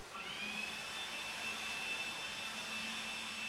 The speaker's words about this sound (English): The familiar roar of leaf blowers can often be heard outside on a brisk fall morning. The crunchy brown leaves litter people's yards and walkways. The gust from a leaf blower whisks the leaves into the street.